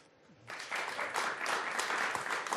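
A short moment of quiet gives way to a burst of audience applause for a guest after a conversation about her stories from life, dense clapping that holds steady and fairly loud to the end, with no voices over it.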